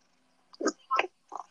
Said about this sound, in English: Oh my god, is he purring? Yeah. Oh, oh my gosh. What? Milo's purring. Oh, I can hear.